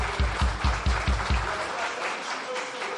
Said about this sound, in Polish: Możecie też zabić brawa, przywitać.